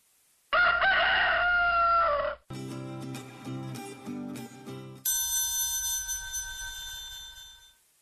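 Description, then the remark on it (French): A rooster lets out one loud cock-a-doodle-doo lasting about two seconds, followed by other unrelated tonal sounds and a sustained ringing, bell-like tone. “C'est le coq qui chante.”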